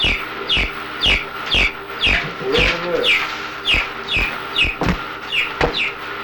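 A chicken clucks over and over in a quick, steady rhythm, roughly a dozen sharp calls, with soft low thumps beneath them and no talking.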